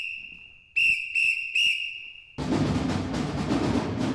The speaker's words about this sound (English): My job is to blow the whistle to call the numbers that we play in the group.